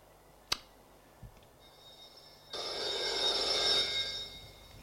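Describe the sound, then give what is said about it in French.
A couple of sharp clicks, then a telephone in an office starts ringing with a bright, buzzy ring that swells for about a second before fading. Clear, with no voices. “La sonnerie téléphone retentit.”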